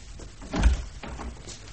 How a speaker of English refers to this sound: The chief's here. Open the door for him, man.